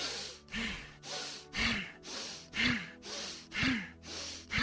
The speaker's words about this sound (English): Again, Breath of Fire, rapid inhale and exhale. This is great for focus and concentration and will oxygenate the blood. Here we go.